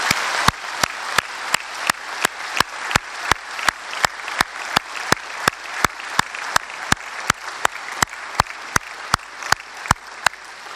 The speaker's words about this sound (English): And I would like, you know, before we end, to simply ask you if we could all together applaud the staff that have served you during this conference.